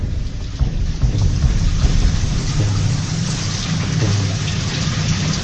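Heavy rain that will not stop pours steadily over flooded Braj while deep thunder rumbles low and continuous beneath it, a loud downpour with no voices.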